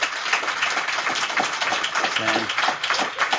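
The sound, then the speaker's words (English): An audience applauds in a steady, dense patter of many hands clapping at once, holding an even loudness throughout, with a brief voice rising through the noise partway in; the audience is voting by applause that the walnuts and breast cancer study is fiction. “Those who think the walnuts and breast cancer is fiction, applaud.”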